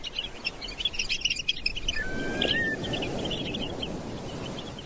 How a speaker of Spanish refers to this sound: escuchamos en la playa, entre ola y ola, un grupo de correlimos tridáctilos, que son unos pajaritos que andan correteando por la orilla del mar, como muñequitos mecánicos para acá, para allá.